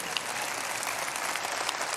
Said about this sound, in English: Applause will do, but.